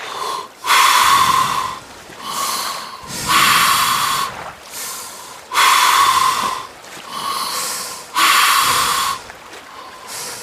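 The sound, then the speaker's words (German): Deep, slow, calm breaths drawn in and pushed out through the mouth via a snorkel held between the teeth, loud with a rushing, airy texture, repeating in a steady rhythm of about five cycles with no talking. “Und jetzt atmen wir tief und ruhig durch den Mund ein und aus.”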